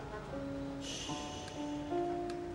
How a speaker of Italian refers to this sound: È partito lo sciacquone del water. L'asse viene richiuso.